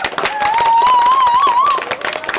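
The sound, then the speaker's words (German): Loud, dense applause from a crowd applauding themselves after singing along, with many hands clapping continuously for the whole stretch, and a wavering, whistle-like tone rising above the clapping partway through. “Dankeschön, Applaus für euch.”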